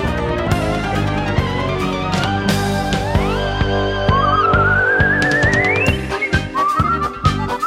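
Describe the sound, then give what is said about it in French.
A person whistles a bright, sliding melody over busy backing music with a steady rhythmic beat, the clear whistled line gliding upward and standing out loud above the instruments. “On vous invite à chercher des noises autour de vous au sifflement.”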